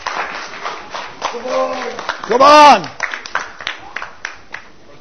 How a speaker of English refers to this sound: Give him a clap.